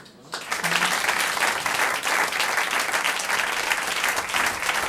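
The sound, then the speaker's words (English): An audience breaks into steady, sustained clapping that begins abruptly after a brief quiet moment and continues as a dense, even wash of applause. “Y'all giving me a clap for me.”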